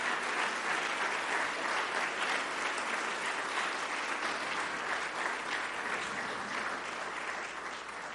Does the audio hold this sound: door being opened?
no